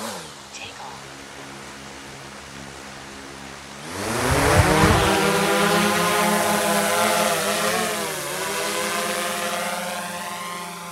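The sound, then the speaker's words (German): The motors of a GPS-guided survey drone, used to estimate black-headed gull numbers on an island, whir into life: a low harmonic hum suddenly swells into a loud, buzzing whine that rises in pitch, then holds as a steady drone with slight wavering. “Dann ist die Drohne startklar.”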